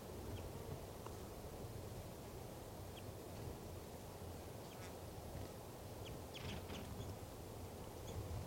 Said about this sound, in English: I believe there are two wild birds here. One's a male and he's perched right above the truck in the branch of a ponderosa pine.